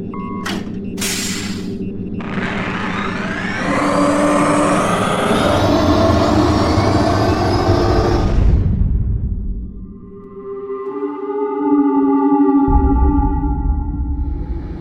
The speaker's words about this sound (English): When we have cleared the canyons, shut down electric hydropropulsion. Activate the ionic turbine engines. Full thrust.